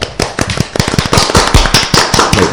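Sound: applause sound effect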